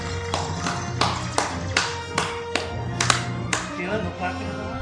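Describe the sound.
A run of about nine sharp hand claps in a steady, moderate rhythm, each a crisp slap, over a low hum and faint murmuring voices.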